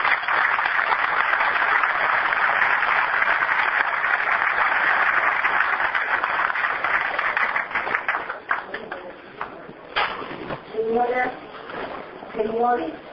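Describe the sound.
A large audience claps loudly and steadily for several seconds to welcome the Minister of National Defense, Dr. Susana Garruti, a dense wash of applause that thins and fades out as a man starts speaking into a microphone.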